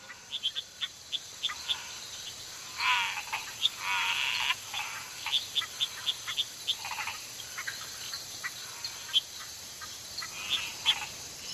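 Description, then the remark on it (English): A dense night chorus of many frogs and insects calling at once, with sharp repeated chirps and croaks overlapping from several directions over a steady high insect drone; no voices. “But this cacophony of sound at night is absolutely awe-inspiring. Are they all frogs”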